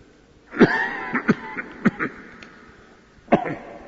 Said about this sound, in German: Teufel, hast du noch immer nicht aufgegeben, mich zum Husten zu bringen? Es wird dir nicht gelingen, meine Predigt zu kürzen.